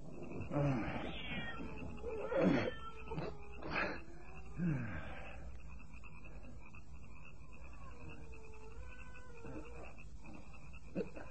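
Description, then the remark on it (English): A cat outdoors in the dark meows several times in quick succession, drawn-out and wavering calls, then falls quiet while a steady chorus of night frogs or insects continues in the background. “That animal is out there in the dark.”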